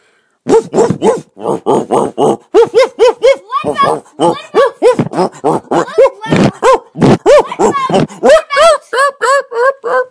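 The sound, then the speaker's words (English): A human voice imitates two dogs fighting, with rapid, continuous barks, growls and snarling yelps packed tightly together for about ten seconds, loud. “Okay, here's my impression of two dogs fighting.”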